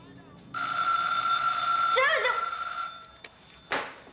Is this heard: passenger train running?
no